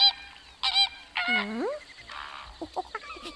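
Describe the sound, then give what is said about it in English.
A parrot squawks loudly, a burst of three harsh, rising calls followed by a few shorter, softer chirps. “Oh, look. Here's our friend Parrot. Oh, perhaps he's come to say goodbye.”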